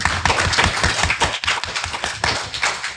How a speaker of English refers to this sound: People, pro or con? Pro DC relaunch. Clap.